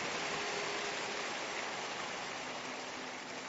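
A worship audience claps their hands for the Lord in sustained applause, a dense, steady patter of many overlapping claps with no one speaking.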